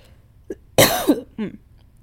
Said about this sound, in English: Wait, I'm going to cough.